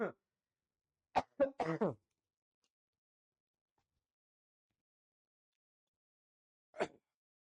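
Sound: coughing fit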